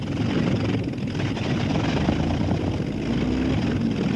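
airplane engine starting up

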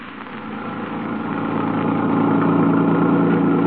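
car engine running

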